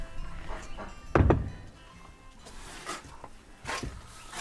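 A door is eased open as people creep in to see a goose's nest, then thuds shut with a single dull knock, followed by faint shuffling and a couple of softer clicks.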